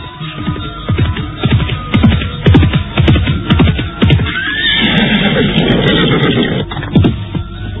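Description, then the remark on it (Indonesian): A horse gallops in on the main road to Pajarakan village by the edge of a forest, with loud, rapid hoofbeats drawing near, then lets out a long, shrill neigh that trails off as the hooves return. No one speaks. “Mendadak, dia melihat seekor kuda berlari mendekat.”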